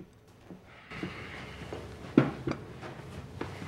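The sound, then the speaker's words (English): A few brief clatters and knocks over a low hum as something in an oven is adjusted, with one sharper clunk as a dish is set down on a table, amid quiet handling sounds during Thanksgiving meal preparation in the TV show Heroes. “He adjusts something in the oven and puts a dish on the table.”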